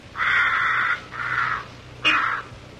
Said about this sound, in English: It's probably a crow.